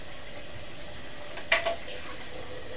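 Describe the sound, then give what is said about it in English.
Water runs steadily from a tap into a sink, with a couple of brief, sharper splashes midway as a child rinses their mouth after brushing their teeth. No one speaks. “Want to rinse your mouth? Yeah. Have some water. Rinse your mouth as well.”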